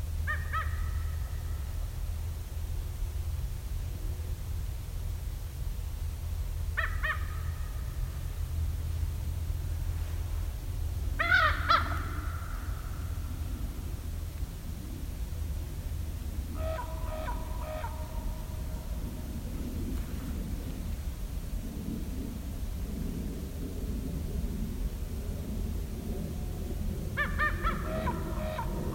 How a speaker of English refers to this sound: But if you listen closely coming up, you'll hear a little trill. Did you hear that? That was a raven. Raven. There, that was a better sound of the trill.